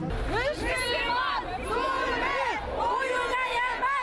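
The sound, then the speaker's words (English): A crowd of many voices at a protest against the crackdown on peaceful demonstrations in Bahrain shouts and chants together in a loud, continuous roar, with rising and falling yells overlapping throughout. “People are here today to protest the crackdown being carried out against peaceful demonstrations in Bahrain.”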